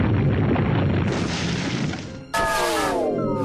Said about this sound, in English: Slash. Earthquake.